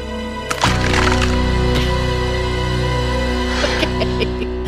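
The heavy metal lid of a waffle iron is smashed down hard on a hand with a sharp crunch, followed by scattered crackling and splintering sounds over a steady, dense background hum, loud.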